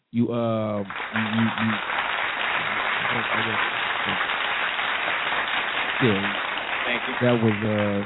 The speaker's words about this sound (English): That was premeditated and premature applause, but we'll keep going.